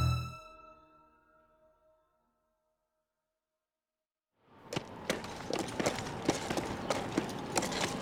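A team of hybrid pack horses, their backs weighted down with heavy equipment, clatter and clop across rocky terrain in a dense, uneven rhythm. The hoofbeats are loud and come after a fading ringing tone and a brief silence.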